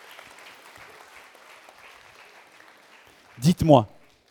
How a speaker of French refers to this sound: Vous pouvez applaudir. C'est bon.